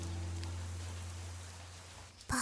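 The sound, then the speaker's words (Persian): Heavy rain pours down in a steady, dense hiss over a low constant hum, with no voices, before a sudden louder burst of noise at the very end. “خیلی داره بارون میاد.”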